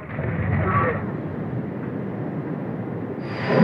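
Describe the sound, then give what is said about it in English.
A steady train rumble rolls along the rails, with a dense low roar that swells slightly near the start and again at the end. “When the train stopped in the station, I saw crowds of starving people stretching their hands through the windows to ask for food.”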